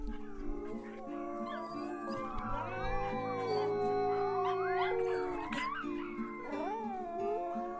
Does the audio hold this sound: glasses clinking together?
no